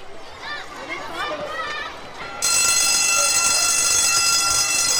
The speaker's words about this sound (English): What does that bell mean? That bell means that we have to go back to our classes and start a new lesson. Oh, of course, I know that bell. That's the bell of the Lawrence T. Gay Primary School in Barbados' largest city, Bridgetown.